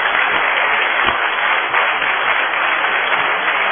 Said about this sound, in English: So I would like a big round of applause for all our performers.